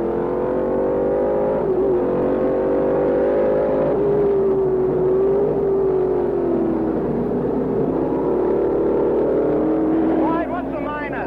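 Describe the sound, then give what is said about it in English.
Race car engines roar at full throttle as Peter Revson streaks by with a Hornet on his tail in the final laps of the Can-Am race at Laguna Seca, the pitch rising and dropping as cars sweep past one after another, loud and continuous for the whole stretch. “Revson streaks by with a Hornet on his tail.”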